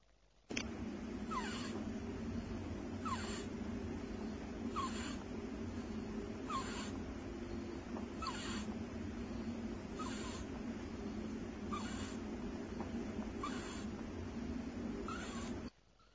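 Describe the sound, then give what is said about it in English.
A rabbit breathes laboriously with its mouth open in a severe case of breathing compromised by a stricture, each strained, wheezy gasp coming about every two seconds in a steady rhythm over a constant background hiss. “This is a case that's progressed more severe now to open mouth breathing.”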